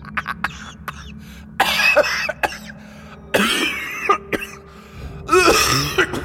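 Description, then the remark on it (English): A man's harsh coughing mixed with choked, sputtering laughter, coming in ragged bursts with short gaps between them, and a strained, wheezing laugh-cough near the end. “A mixture of coughing and laughing that reminded Keelan of a petrol mower struggling to start.”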